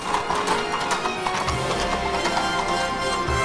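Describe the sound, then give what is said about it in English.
Horse hooves clip-clop steadily on a hard surface in a courtyard as Lorenzo on a chestnut horse and a soldier on horseback set off after a moving carriage, with a horse whinnying briefly and wheels rumbling along beneath, continuous. “He mounts a chestnut horse brought to him by a soldier, also on horseback. They head off after the carriage.”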